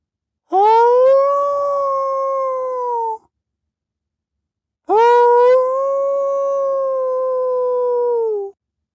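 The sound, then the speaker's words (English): Two long, sustained howls from a coyote pack ring out loud, each held steady for several seconds and separated by a brief silence, with no talking. The young coyotes howl at a higher pitch and the eldest at a deeper one. “Otis noticed the coyotes had raised the volume of their own song, perhaps welcoming him.”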